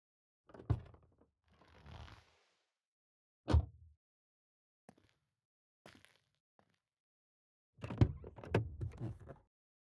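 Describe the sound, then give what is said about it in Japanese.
A car door is worked as the driver gets out to open it: a sharp latch clunk, a sliding rustle, another heavy thunk, a few faint clicks, then a louder burst of door handling and shutting noises. “じゃあ、私が車から降りてドア開けますので、本当に帰りたかったら降りてください。”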